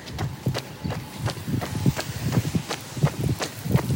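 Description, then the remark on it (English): A lawn sprinkler, heard while passing by it, sprays water, giving a steady run of sharp, clicking bursts about two or three per second over a soft hiss, fairly loud with no one talking. “Might be the sprinklers I'm going by. Listen to this noise.”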